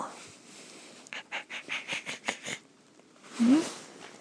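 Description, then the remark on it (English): A female dog sniffs and breathes in a quick run of about ten short, rhythmic puffs while checking the speaker's bag for something for her, followed after a pause by a louder, breathy exhale. “When I used to live here, this was my dog.”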